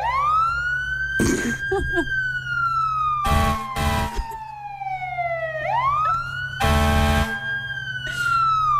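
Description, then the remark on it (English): A voice imitates a fire truck siren from the back of the throat, a loud wail that slowly rises and falls across several seconds, broken by a few harsh, breathy bursts. No one talks. “All right, try a fire truck,”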